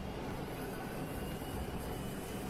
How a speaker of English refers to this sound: Well, this is a some kind of Chrysler turbine car from the 60s.